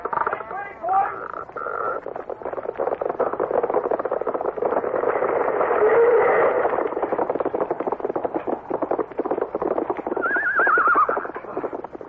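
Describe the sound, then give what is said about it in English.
A horse whinnies with a high, wavering cry at the start and again near the end, while a steady, rapid clatter of hooves clip-clops loudly throughout, as a cowboy jumps from his horse towards a cattle thief. “Tex jumps from his horse and leaps towards the cattle thief.”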